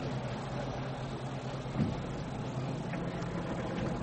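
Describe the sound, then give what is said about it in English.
A car engine rumbles steadily on a dirt track, a low droning hum with a faint gritty wash of road noise over it and no voices. “Aren't there any other cars but Rolls Royces and Mercedes on this dirt track?”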